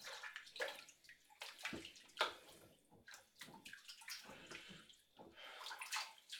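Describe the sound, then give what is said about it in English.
Water sloshes and splashes in a bathtub in irregular bursts, with sharp splashy surges standing out over a continuous watery churn. No one speaks. “Oh my God, this water is so nasty.”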